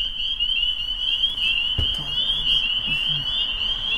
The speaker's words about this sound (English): On our drive back, we go by some wetlands, and we hear peepers calling.